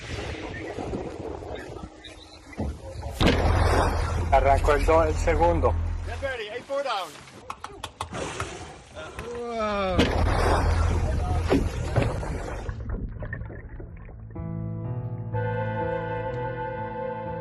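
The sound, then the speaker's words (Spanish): Heavy thumps strike a sailboat's hull as orcas ram it, a real recording of an encounter with orcas at sea, two sharp bursts standing out over rushing wind and water, while excited voices talk throughout. “Bueno, lo que acabamos de escuchar son sonidos reales grabados de encuentros con orcas.”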